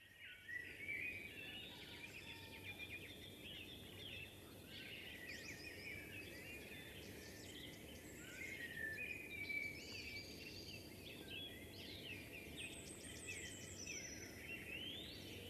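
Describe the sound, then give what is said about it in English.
A robin's thin, warbling song and a wood pigeon's soft cooing carry through a busy outdoor bird chorus by a lake, steady over a low background rumble, with no one talking. “Robin, wood pigeon, I think it was a pheasant as well.”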